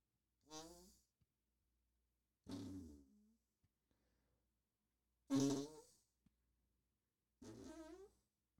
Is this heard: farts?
yes